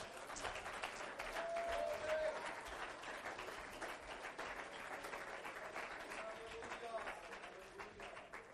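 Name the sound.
audience clapping hands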